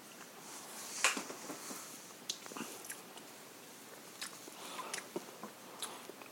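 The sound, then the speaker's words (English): Someone sips a Swiss malt liquor, with quiet wet slurps, swallowing and lip smacks scattered irregularly across several seconds. Nobody talks. “Let's sip on this bad boy, though.”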